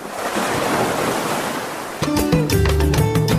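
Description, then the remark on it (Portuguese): Steady rushing surf of waves breaking on a shore fills the first two seconds, loud; then a melodic music passage comes in over the fading wash of the sea. “Ao som da voz do mar, prepare-se para ouvir a história da criação da Rede de Mulheres Pescadoras da Costa dos Corais”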